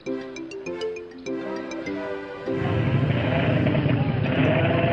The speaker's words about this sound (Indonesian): Ketika mereka berempat hendak meninggalkan lapangan basket di sekolah, tiba-tiba mereka dikejutkan oleh deru sepeda motor.